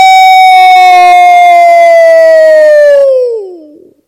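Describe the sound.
A person lets out one long, loud howl, holding a steady, siren-like pitch for about three seconds before it slides downward and trails off.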